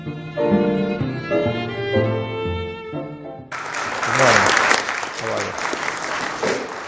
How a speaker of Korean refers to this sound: 워싱턴 DC의 한 호텔에서 열린 환경과학협회 행사장. 오바마 대통령이 참석자들의 박수를 받으며 연단 위에 오릅니다.